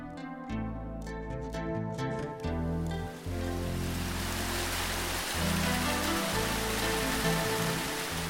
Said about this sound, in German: Das Wasser der Saltina dröhnt und stürzt zu Tal. Der Fluss hat sich in Jahrmillionen in den Fels gefressen und er tut es bis heute. Die Saltina strömt in Pirouetten durch das Gebirge, springt von Fels zu Fels